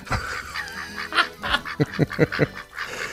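duck quacking

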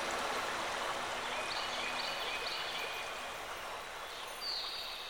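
river flowing

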